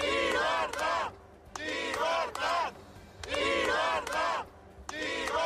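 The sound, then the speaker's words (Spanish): A large crowd in Catalonia chants "libertad" (freedom) in unison as jailed Catalan independence leaders are taken out of prison, loud repeated bursts of shouting roughly every second with brief dips between, like a rhythmic protest slogan being yelled over and over. “Entre gritos de libertad y alguna que otra carga policial, como han escuchado, han salido de las cárceles los políticos presos en Cataluña.”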